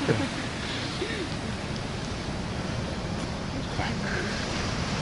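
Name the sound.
ocean waves breaking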